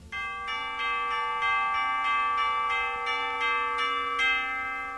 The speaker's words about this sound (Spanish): Las campanas dan din don, te lo dicen en canción.